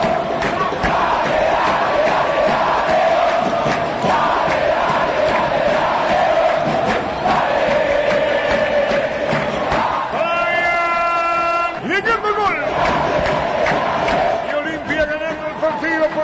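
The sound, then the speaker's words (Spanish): A huge football crowd roars and shouts continuously at high volume as Olimpia scores to lead 1-0, with a dense wall of voices and a brief sustained whistle-like chant cutting through near the end. “Cerca de la base del punto izquierdo de Barranco Arco, que da contra la avenida Manica López, y hace ese grito, el grito de punta, el grito que huele campeonato.”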